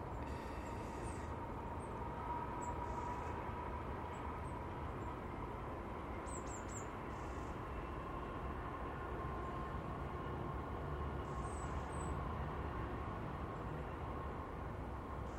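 A steady, distant rumble of a speeding electric train heading west toward Glasgow and Bartonshire, heard on a south wind, holding an even level throughout, with a few faint, brief high chirps above it and no one speaking.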